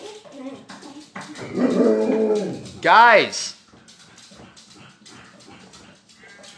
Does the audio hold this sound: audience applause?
no